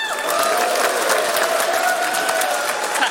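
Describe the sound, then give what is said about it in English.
An audience at a speaker event cheers and applauds to vote for speakers in a tiebreaker, steadily for about three seconds, with dense clapping under a sustained high whoop or whistle-like shout rising above the noise, loud throughout. “Okay, I think that the cheering suggests that we want”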